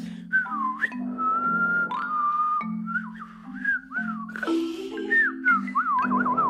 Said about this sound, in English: When I hear somebody whistling, I think this person feels good, even if it feels like nervous or something, it still like calms you down.